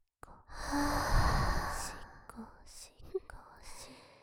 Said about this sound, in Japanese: 私の熱い吐息耳にかけてあげます。